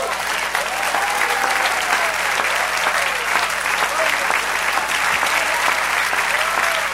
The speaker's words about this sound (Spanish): Dar un aplauso.